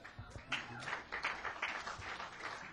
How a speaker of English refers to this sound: Always a little smattering of applause for Brindle. Smattering.